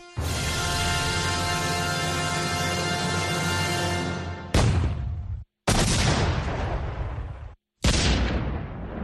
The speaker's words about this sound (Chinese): 1898年2月15日夜间，在哈瓦那港口停泊的缅因号发生大爆炸，军舰沉没了，舰上的250多名美国海员丧生，没人知道爆炸的原因。